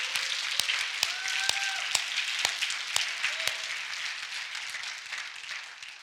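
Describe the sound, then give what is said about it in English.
A crowd claps their hands to God in a dense, steady wash of applause, with a few sharp louder claps standing out near the start. Faint raised voices and cheers mix into the clapping. “If you want that, clap your hands to God.”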